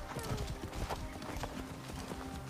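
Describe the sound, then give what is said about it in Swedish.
Steady clip-clop of horse hooves from a video game in alpha gameplay as a rider rides a horse around a small village, a quick rhythmic trot of light knocks over a dense background hum, with faint talk mixed in. “Han rider omkring på en häst i en liten by.”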